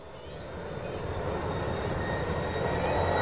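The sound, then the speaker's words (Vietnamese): A continuous airplane engine roar, broad and droning, slowly growing louder as if the aircraft is approaching, with faint whining tones riding on top. “Máy bay. Quá giỏi luôn.”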